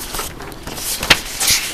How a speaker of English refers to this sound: And forgive me as I rifle through the stack of paper in front of me.